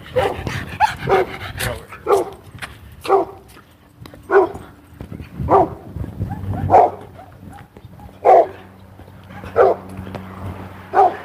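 Dogs bark in a steady string of about ten sharp barks, roughly one per second, loud over a low, constant background hum.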